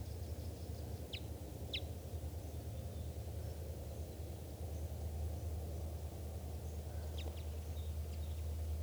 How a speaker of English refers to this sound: And there's another bird around here chittering.